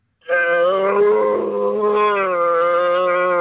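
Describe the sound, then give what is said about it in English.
A person lets out a loud, sustained imitation of an animal roar, one long throaty bellow that starts abruptly and holds steady for about three seconds, with nothing else heard. “Oh, no, here's the roar.”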